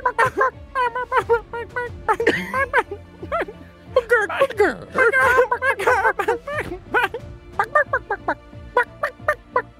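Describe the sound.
A person's voice imitates a chicken as a new chicken character, with rapid, repeated clucks and squawks, loud, continuing in an uneven rhythm for about ten seconds.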